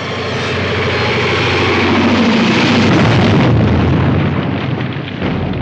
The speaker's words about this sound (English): we got to see it go right through into the gas station and explode